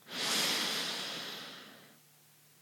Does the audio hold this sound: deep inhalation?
yes